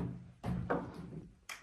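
A door handle clicks down and a door swings open, a few short mechanical knocks and rustles over about a second and a half, as someone enters room number 6 through the door on the left.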